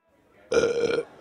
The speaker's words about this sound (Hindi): मेरी डकार तेरे लिरिक्स से अच्छी थी